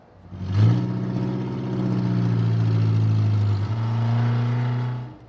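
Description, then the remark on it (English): A car with a falling-apart muffler runs loud and rough with a deep, rattly exhaust drone, rising after a quick rev and holding steady for several seconds before cutting off. “Now, I'll press this button, and we can hear the car running with the falling apart muffler.”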